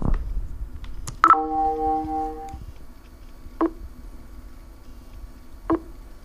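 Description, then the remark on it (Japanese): A computer, connected to a camera by USB 2.0, gives a short multi-tone electronic beep after a couple of quick clicks as Enter is pressed once to start text recognition of a scanned page, followed by two brief mechanical ticks spaced a couple of seconds apart. No voices. “快速読メールの場合はエンターを1回押すと認識が始まりますけれども、特に読み上げ何とか開始とかいうことは言いませんので、パソコンの音を聞いて、体感してください。”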